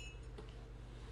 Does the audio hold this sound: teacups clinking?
yes